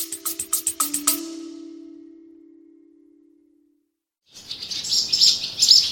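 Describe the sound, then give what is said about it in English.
Swallows flying into a large farm barn to feed their four waiting young chirp in quick, bright bursts, first a rapid twittering series, then a pause before a busy chorus of high calls and fluttering wings returns. No one speaks. “Swallows flying into one of the large barns at High Ash Farm, feeding their young.”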